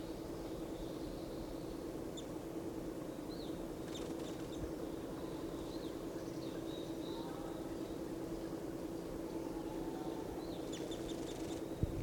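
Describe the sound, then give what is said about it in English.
Four to five wild birds call from the tops of lodgepole pines, one right above a net, with scattered short, high chirps and twitters over a steady low hum of background noise. “One of the birds is in the top of a lodgepole right above the net, pointed at this bird.”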